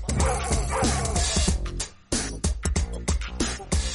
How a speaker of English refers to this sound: This is my type of dog right here. This is the dog that I like.